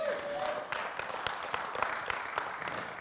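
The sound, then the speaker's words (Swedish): An audience applauds in a steady, dense patter of many hands clapping, with a few sharper claps standing out as the applause continues at a moderate, even level. “Ja, det är sannoliken värt en applåd.”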